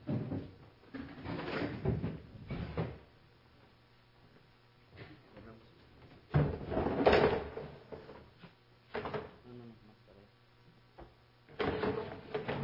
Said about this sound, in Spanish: Y vamos a poner las patas abajo. Y si me ayudan, vamos a sacar las sillas de aquí.